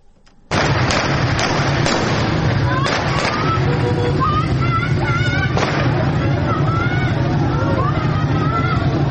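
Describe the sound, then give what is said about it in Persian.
A loud, dense crowd of protesters shouts and yells continuously while several sharp gunshots crack through the din at irregular intervals, a few in quick succession near the start and another later on, as protesters throw stones at a police post in Fanuj county, Iran, in a Tuesday evening clash with police. “ویدئوهای منتشر شده در شبکه‌های اجتماعی نشان می‌دهد که معترضان به سوی یک پاسگاه سنگ پرتاب می‌کنند و در پس زمینه صدای شلیک گلوله شنیده می‌شود.”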